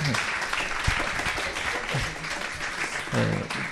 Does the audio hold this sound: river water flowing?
no